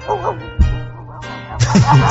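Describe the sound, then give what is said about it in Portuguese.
A dog barks in a few short, loud bursts, the last one stretching into a longer run of yips, with a steady low hum underneath. “E manda o um cachorro latino 2 quilômetros pro bairro Barroca.”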